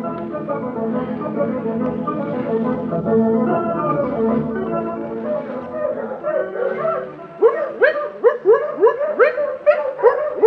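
A litter of seven newborn puppies of the dog Bonnie Blue, in the Piney Woods County of Mississippi, whimpers and squeals in an overlapping chorus, then breaks into a quick series of sharp, high-pitched yips, each rising and falling.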